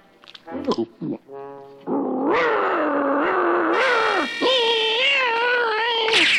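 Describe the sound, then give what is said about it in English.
A newly adopted cat, being introduced to a dog, gives a few short, harsh snarls, then breaks into a long, loud, wavering yowl that rises and falls in pitch, unbroken for several seconds. “meet our new cat and your new buddy.”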